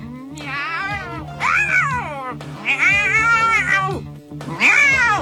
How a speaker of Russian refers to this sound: Послышалось отвратительное кошачье мяуканье и сдавленный крик